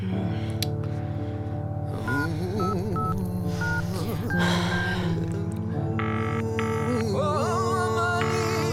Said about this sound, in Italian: Prendi il telefono. Chiama!